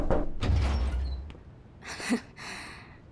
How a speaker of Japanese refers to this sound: 一応女の子の部屋だけど、ノックしてもすぐ入ってくるなら意味ないんじゃない？